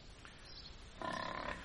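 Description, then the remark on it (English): A single grunt from Empress of Blandings, Lord Emsworth's prize-winning pig, short and fairly loud, rising out of a hissy background noise about halfway through and lasting about half a second. No voices. “You say, Lord Emsworth, that this fine pig hasn't touched her food for 48 hours?”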